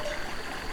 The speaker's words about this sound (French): Un ruisselet,